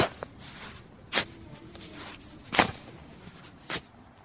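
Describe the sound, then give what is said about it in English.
Someone digs a hole in garden soil to plant a flower seed: four crunchy, scraping spade strikes at an uneven, unhurried pace, the second and third the loudest, separated by quiet gaps, with no talking. “First, we dig a hole.”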